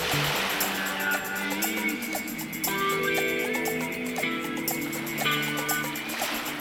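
Swimming pool ambience: a steady wash of splashing, lapping water fills a reverberant space, with faint echoing voices and tones drifting in the background throughout.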